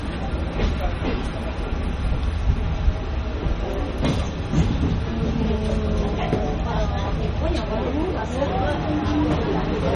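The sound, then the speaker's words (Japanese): A train with trolley cars reverses about 800 metres along a switchback track, with a continuous rumble and clattering of wheels on rails, while a voice speaks over the running noise. “800メートルバックをいたしております。”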